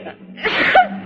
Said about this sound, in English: Gesundheit.